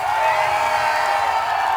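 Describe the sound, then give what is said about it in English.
A large crowd screams and cheers on a performer's call to scream, a sustained, dense roar, loud and steady throughout with no single voice standing out. “I can kill you, come on, scream!”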